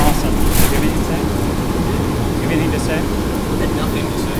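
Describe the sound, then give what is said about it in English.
A steady, loud low-pitched rumble fills the interior of a moving city bus, with constant engine drone and road noise and faint, indistinct voices somewhere in the background. “I kind of feel like we should try to get off the bus at some point and call more people on the phone.”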